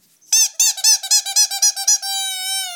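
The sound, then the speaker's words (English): A squeaky dog toy shaped like a beer bottle, marked 'dog beer' in raised letters and belonging to the guide dog Gunner, is squeezed repeatedly. It gives about nine quick, high-pitched squeaks in a rapid rhythm, ending in one longer drawn-out squeal. “The first one is the squeaky beer bottle.”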